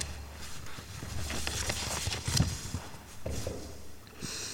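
Horse hooves clip-clop in a steady, uneven patter over a low rumble as a knight rides off on his horse, moderately loud, with no voices present.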